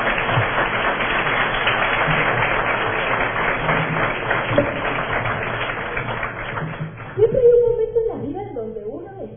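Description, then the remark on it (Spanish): An audience at a panel discussion applauds the panel with steady, dense clapping for around seven seconds, then the clapping thins out as a single voice starts speaking over the tail end. “Entonces, antes de empezar, vamos a dar un aplauso al panel y también a la señora.”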